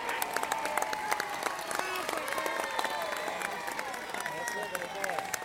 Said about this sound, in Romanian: Aplaudăm atenția și bunăvoința de a răspunde.